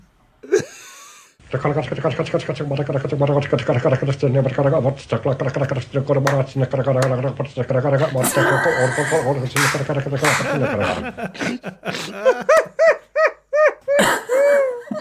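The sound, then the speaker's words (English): A steady, droning engine hum with a low buzzing pitch runs for several seconds from a boat's outboard engine idling out on a harbour, then gives way to a series of short, wavering, whistle-like tones. “So this is the sound from the outboard engine.”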